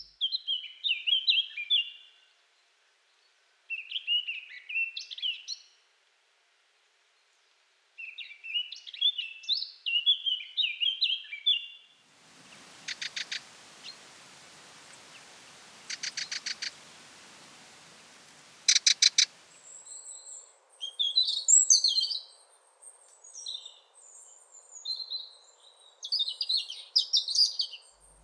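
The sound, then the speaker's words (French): Three bird species sing in turn in the bois des Lens woodland: bright warbling phrases first, then a dry, buzzy rattling song in repeated bursts, then another run of quick, varied twittering notes, with no talking. “Là, on vient d'entendre trois espèces.”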